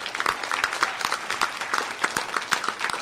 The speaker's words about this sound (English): I would be remiss. I didn't start the panel by saying that, but I would be remiss if we don't give a round of applause for the work of Darwin Cook.